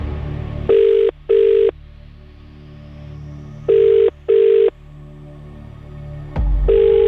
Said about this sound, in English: Hopefully, it won't happen tonight. Phone's ringing.